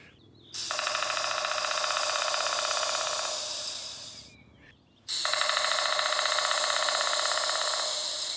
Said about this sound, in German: Andere Spechte haben ein bisschen anderes Tempo drauf. Ich mache jetzt mal zum Vergleich unseren größten Specht, den Zimmermann des Waldes.